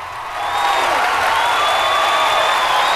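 A standing audience bursts into loud, sustained applause and enthusiastic cheering as a group of young contestants strides onto a stage showered with silver confetti. A dense wash of clapping, with a few high whistles or shouts rising above it, swells within the first half second and holds steady.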